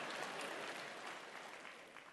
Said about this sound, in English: Yeah. And yeah, you can clap for that. It's kind of cool.